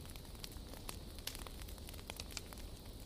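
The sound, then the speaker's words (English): A fire crackles steadily in a grand fireplace with a stone hearth, with irregular sharp pops and snaps over a soft, constant low roar of flames. No one speaks. “A grand fireplace dominates the room, its flames dancing merrily, casting a cozy glow on the stone hearth.”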